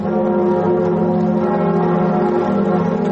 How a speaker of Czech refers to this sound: Zvuk zvona na katedrali Notre Dame u Parizu narednih godina neće se čuti, jer je vatrena stihija zahvatila crkvu u aprilu prošle godine.